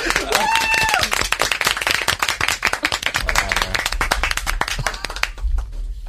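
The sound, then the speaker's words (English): An audience claps steadily for several seconds, a dense patter of many hands with a few brief whistles early on, the applause thinning slightly toward the end. “You keep clapping right now.”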